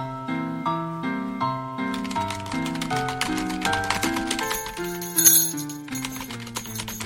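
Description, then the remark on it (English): Rapid, uneven, crisp clacking of typewriter keys as editor Wiley Magruder types up the day's top news story in the La Mesa Scout newspaper office, January 1911, starting a couple of seconds in and continuing over a gentle melodic music bed, with a brief bright ding partway through. “So without further ado, we begin our presentation with the dateline of January 1911, in the office of the La Mesa Scout, where editor Wiley Magruder is hard at work typing up today's top news story.”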